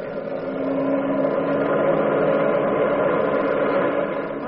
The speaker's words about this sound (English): It's an automobile.